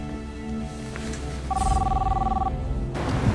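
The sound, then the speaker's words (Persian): A telephone rings once: a steady electronic tone lasting about a second, heard over a low, continuous background rumble. “ما رد اون شماره رو گرفتیم. نتیجه چی بود؟ خط تلفن وصل نیست.”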